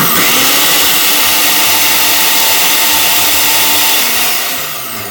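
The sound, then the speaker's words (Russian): A blender whirs loudly and steadily for several seconds, a dense high-pitched motor roar with a faint shifting pitch as it purees cooled soup together with its liquid until no lumps remain, easing off slightly at the end. No one speaks. “Так, ну что, нажимаем на кнопку и полетели. Взбиваем так, чтобы не было никаких комочков.”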